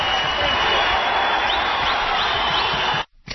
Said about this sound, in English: That's theater applause. I need the rock star applause.